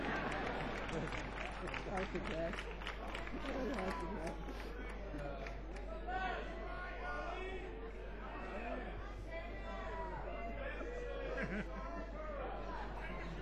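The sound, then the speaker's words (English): A crowd of audience members yelling out song requests to the performers, shouting over one another, a steady wall of overlapping raised voices with individual yells poking out now and then, continuing without a break. “Continue to yell, it gives me time to look at the actual list of songs.”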